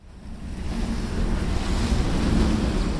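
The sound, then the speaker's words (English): A motorboat water taxi (motoscafo) trimmed and decked in mahogany and teak churns across lagoon water from Venice to the island of Lido. Its low engine rumble holds steady beneath a rushing wash of waves and wind, continuous throughout. “On the island of Lido, movie stars arrive from Venice in sleek water taxis trimmed and decked in mahogany and teak.”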